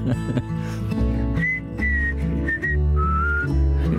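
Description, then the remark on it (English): Someone whistles a tune, a few clear sustained notes rising and falling over steady instrumental accompaniment, prominent, with no talking. “Hey, why don't you whistle a little bit?”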